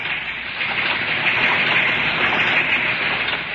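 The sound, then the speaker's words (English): V-mail processing equipment at the Navy's Fleet Post Office in New York runs with a dense, steady hiss and whir, an unbroken wash of mechanical noise at constant loudness with no voices. “It's V-mail equipment.”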